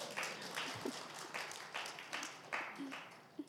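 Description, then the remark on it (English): An audience applauds with a steady, dense patter of many hands clapping at moderate volume for a few seconds, with faint murmurs of voices now and then underneath. “Yeah, you can give applause for that.”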